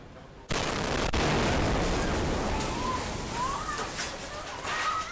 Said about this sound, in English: In cell phone video taken by a Chinese tourist, the moment of the blast is captured.